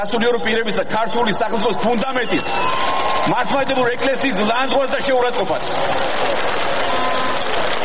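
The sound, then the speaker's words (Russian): A crowd at a Georgian Dream party rally erupts in sustained applause and cheering that drowns out an orator's speech, a dense, loud wash of clapping that runs the whole time, with a voice speaking over it. “И в этот момент речь оратора утонула в бурных овациях участников митинга.”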